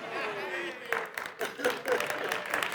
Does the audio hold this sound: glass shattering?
no